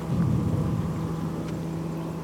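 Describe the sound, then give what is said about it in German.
A low, steady, thunder-like rumbling from fighting in Myanmar's civil war rolls in from the distant mountain ranges behind KK Park near the border, holding a fairly constant level over a dull background hum with no one speaking. “In der Entfernung ist Donner zu hören, der aus den Bergketten hinter KK Park zu uns rüberrollt.”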